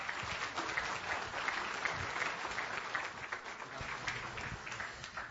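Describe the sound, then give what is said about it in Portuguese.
Sustained applause from an audience applauding Jesus Christ, a dense steady patter of many hands clapping at fairly even loudness for several seconds, with no voices standing out. “Vamos aplaudir nosso Senhor Jesus Cristo.”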